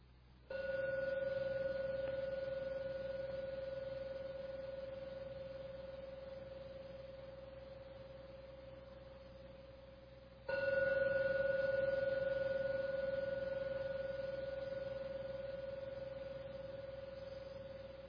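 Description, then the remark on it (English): A meditation gong is struck twice, about ten seconds apart, to end a meditation session, each strike leaving a steady mid-pitched ringing tone with a faint higher overtone that slowly fades. There is no talking. “Just listen to the sound of the gong and let the 3rd ringing very gently bring you out from your meditation at the end of the 3rd ringing of the gong.”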